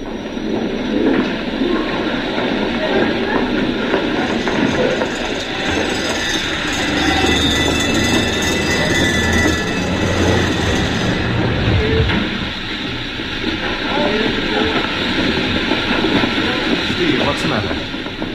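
A busy railway station with a train rumbling and clattering along the platform, wheels clacking steadily under a constant wash of crowd murmur and echoing hall noise.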